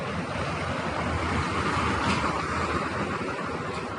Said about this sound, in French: Voiture. Voilà. Une voiture qui passe.